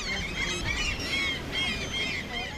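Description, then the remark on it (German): A noisy crowd of gulls squawks and cries as they dive for thrown breadcrumbs at a pier on the Baltic Sea, their harsh overlapping calls running without a break over a low rumble of wind or surf. “Sofort bin ich umringt von zeternden Vögeln.”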